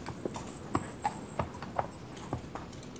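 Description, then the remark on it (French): The horse hooves of a horse-drawn carriage clip-clop at a steady walking pace, a regular series of sharp, hollow knocks with a faint continuous rolling hiss behind them and no talking, in a radio adaptation of Charlotte Brontë's Jane Eyre. “Je descendis de la voiture et ayant remis ma malle à l'aubergiste et payé le cocher, je me mis en route.”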